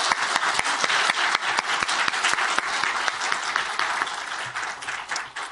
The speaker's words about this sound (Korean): 그런 의미에서 제가 1, 2부 때는 하지 않았는데 모든 예배를 섬기는 섬김이들을 위해서 박수로 한번 격려하면 좋겠습니다.